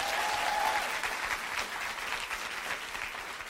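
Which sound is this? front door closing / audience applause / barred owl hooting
audience applause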